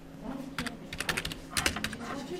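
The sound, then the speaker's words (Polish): Quick, irregular clicks of someone typing on a computer keyboard, with short bursts of keystrokes and brief pauses between them. “A tutaj może będziemy coś pisać.”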